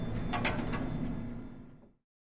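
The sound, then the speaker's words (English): Lift doors slide open on the second floor, the departures level with check-in and bag drop, with a steady mechanical rumble and a soft whir, lasting about two seconds before cutting off abruptly into silence. “Doors opening. Second floor.”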